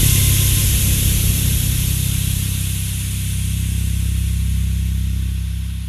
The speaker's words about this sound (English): A loud hiss startled me out of my thoughts. It must have gotten cold outside because the steam from the boiler was bumping around through the pipes. I guess there's one sound no building can avoid, especially not old ones.